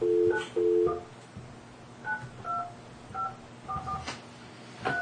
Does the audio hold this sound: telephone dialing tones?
yes